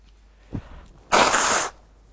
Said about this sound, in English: Let me just blow my nose here.